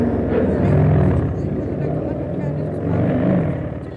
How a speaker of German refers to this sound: Das hören Sie doch, da versucht jemand, sein Motorrad in Gang zu bringen.